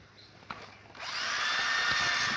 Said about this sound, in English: So I'm going to find a place where the two holes kind of line up more or less. Drill a hole on one side, drill a hole on the other side.